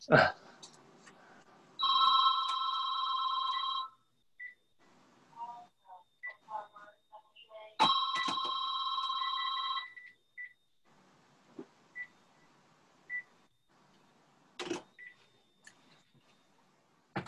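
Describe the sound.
A phone rings twice, each ring a steady, bright electronic tone lasting about two seconds, with a pause between rings and faint voices murmuring in the gaps.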